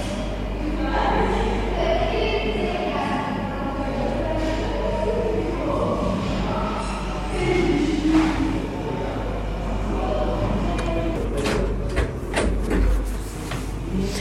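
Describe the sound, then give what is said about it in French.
Crowded hotel corridor ambience in Afghanistan, where more than 200 people wait to be evacuated: a steady murmur of many overlapping, indistinct voices over a low constant hum, with a handful of sharp knocks and clatters near the end. “Les sons que vous avez entendus, ce sont ceux de notre corridor dans l'hôtel. Avec nous, il y a plus de 200 personnes ici.”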